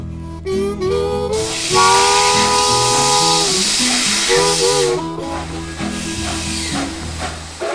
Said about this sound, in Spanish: En una de esas jornadas de trabajo, escuchó a lo lejos el silbato de un tren y decidió ir a buscarlo.